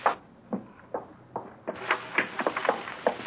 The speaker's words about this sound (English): Well, what's the trouble? The door to the galley's locked. See? Won't open.